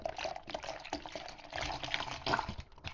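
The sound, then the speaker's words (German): Oat drink being mixed with chocolate powder in a kitchen: a steady, busy swishing and sloshing of liquid with small irregular splashes, moderately loud and continuous, with no voices. “Bin jetzt in der Küche und misch mir jetzt mein Hafertrink mit Schokopulver an.”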